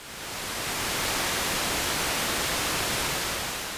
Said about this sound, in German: Ja, so klingt dann White Noise. Also es ist wirklich so ein ganz dumpfes Rauschen.